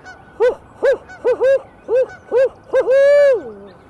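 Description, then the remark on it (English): A person in a flooded forest imitates a barred owl song to make the birds respond: a rhythmic series of loud hooting notes ending in a long, drawn-out hoot that slides downward, with no other sounds. “One thing that'll oftentimes make them jump up is if you give a barred owl song.”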